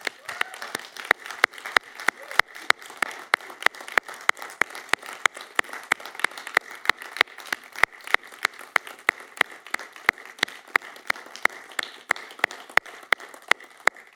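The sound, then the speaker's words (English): The Cornerstone church audience applauds steadily for about fourteen seconds after a prayer, many overlapping claps forming a dense, even wash, with sharper individual claps popping out above it at a fairly constant volume. “And lots more clapping online,”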